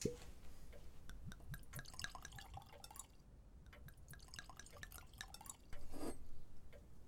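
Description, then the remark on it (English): Wine pours into a glass with a bubbling, trickling gurgle and small clinking drips, fairly quiet, running steadily for several seconds with no voices. “A glass of wine? Oh, yes.”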